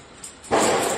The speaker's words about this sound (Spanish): Ahí está el trueno. ¡Qué susto!